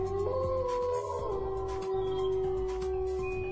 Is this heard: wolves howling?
yes